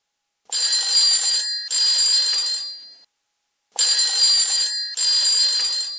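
A telephone rings loudly in two double-ring bursts separated by a short pause, with a bright, trilling bell tone. No voices are heard.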